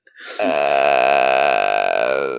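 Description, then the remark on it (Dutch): A long, loud burp rumbles on for about two seconds, steady, with a slight warble toward the end. No one speaks over it. “Dat is een lange boer.”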